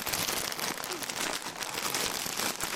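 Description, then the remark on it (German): A plastic bag of rice crinkling and rustling steadily for a few seconds as it is handed over, fairly loud, with no voices. “zögert nicht lang und gibt ihm eine Tüte voll Reis.”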